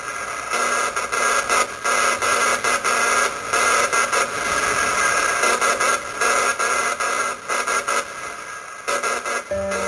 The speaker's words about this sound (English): Unlike later Morse code radio signals, the signals from a spark gap transmitter sounded like, well, electronic flatulence.